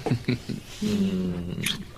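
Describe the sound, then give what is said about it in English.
A dog moans loudly: a few short, choppy grunts, then one long, drawn-out, wavering moan, ending with a brief higher squeak. “What an awful noise he makes.”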